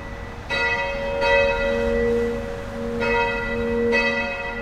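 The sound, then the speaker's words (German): Church bells of the Catholic church St. Aldegundis in Rheindorf, Leverkusen, ring out in a slow, uneven peal, several resonant strikes whose rich tones linger and overlap into a steady hum, clear with no voices. “Dreimal am Tag läuten in allen katholischen Kirchen die Glocken.”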